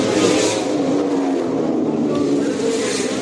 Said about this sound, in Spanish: El piloto levantino Alejandro Martínez Mas lo ha vuelto a hacer. Se ha vuelto a coronar este domingo en la carrera de motos por circuito urbano en La Bañeza, tras las 15 vueltas de la categoría Reina 125 MotoGP.